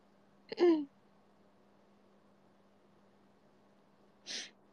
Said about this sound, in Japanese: 養殖くしゃみは助からない。養殖くしゃみダメか。